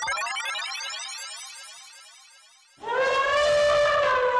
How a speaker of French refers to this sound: Wow, c'est quoi ce bruit-là ? On dirait mon grand-oncle qui éternue comme une trompette. Mais non, il s'agit bien d'un éléphant. L'éléphant, c'est une espèce menacée en Afrique.